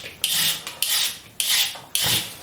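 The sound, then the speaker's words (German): Four rough, raspy scraping strokes in a steady rhythm, each a bright hissing rasp that starts sharply and fades, as a blade scrapes the skin off carrots. No one speaks. “Möhren mal die Schale ab.”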